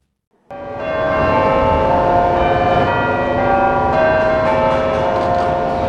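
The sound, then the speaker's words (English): Church bells in London, Britain, peal loudly and continuously for a service of thanksgiving for health service workers, overlapping strikes blending into a dense, ringing wash of tones that fills the space, with no voices present. “Bells ring out in London as Britain holds a service of thanksgiving for its health service workers.”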